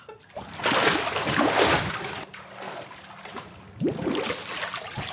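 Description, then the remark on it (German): Someone plunges underwater in a pool, with steady churning and sloshing of water, then a sharper splash and bubbling swirl near the end. No voices are heard. “du hast noch Zwiebel im Gesicht, bevor du im Pool landest. Und abtauchen.”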